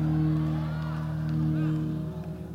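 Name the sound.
audience shouting and whooping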